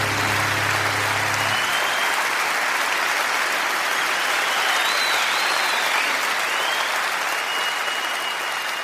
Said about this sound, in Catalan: aplaudiments